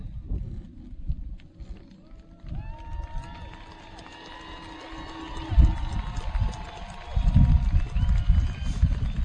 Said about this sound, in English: Guests in attendance, please feel free to applaud your graduate as you hear their name called.